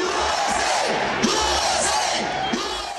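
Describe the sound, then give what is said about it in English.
A large crowd at a march organized by religious, union and activist groups chants "USA, USA" with radio host Eddie Sotelo, a dense roar of many voices rising in regular, rhythmic bursts about once every second or so, loud and continuous throughout. “Chanting USA, USA, Sotelo and the crowd responsively yelled, "We came to the country not to hurt it, but to get ahead."”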